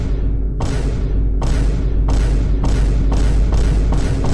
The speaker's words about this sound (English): And that's exactly what it sounded like. It was a series of booms that got progressively faster. And the faster the progression got, the faster the sound moved across the sky.